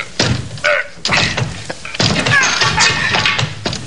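A shoulder rams a locked door in several heavy, booming thuds spaced about a second apart, with creaking and rattling of the wood between blows before it gives way.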